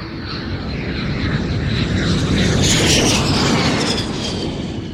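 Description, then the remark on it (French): A Fairchild military airplane of the Uruguayan Air Force, number 571, takes off at 8:05; its propeller engines roar steadily and loudly, swelling slightly toward the middle, with no voices present. “À 8h05, le Fairchild numéro 571 de l'armée de l'air uruguayenne décolle.”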